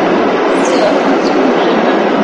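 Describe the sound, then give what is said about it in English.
Heavy rain pounds steadily on a metal roof, a dense, unbroken hiss and patter that stays loud and even throughout, with no voices. “We are really getting the rain that we've been missing for the past month and a half.”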